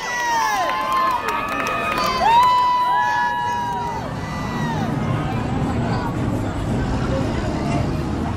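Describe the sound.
A large concert crowd in New Orleans cheers and whistles enthusiastically for the performer on stage, with shrill rising and falling whistles over a dense, continuous roar of voices that stays loud throughout.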